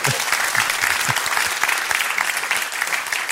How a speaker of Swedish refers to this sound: Visst är det en fantastisk studio? Ja, Studio 4, en applåd för den.